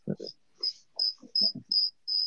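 Crickets chirp in a steady series of about six short, bright trills, evenly spaced, with some low muffled thumps underneath.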